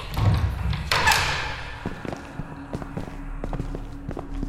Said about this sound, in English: slowly opened the door